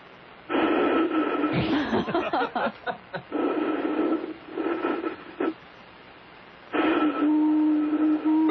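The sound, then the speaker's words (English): Someone blows across a can, making it whistle, in a voicemail message: breathy, hollow low tones in several sustained bursts, with a short clattering, fluttery stretch between the first two and a slightly higher whistle at the end. “Here's me blowing into a can.”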